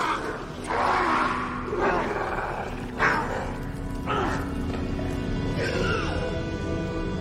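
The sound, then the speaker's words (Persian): A creature, Donny, lets out a loud, rough roar and falls to the ground, the roar surging and rasping in several heaving bursts over about seven seconds, with a steady low hum running underneath. “دونی نره میکشه، میفته روی زمین.”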